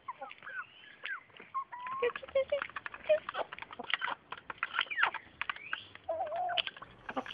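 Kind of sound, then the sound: bird, chickens clucking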